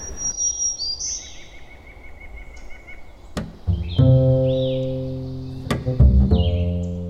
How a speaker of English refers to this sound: We've got oven birds calling, which obviously seem to be the loudest bird in the forest. Black and white warbler. I hear hooded warbler. Black-throated green warbler.